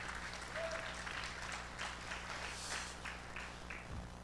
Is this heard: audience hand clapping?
yes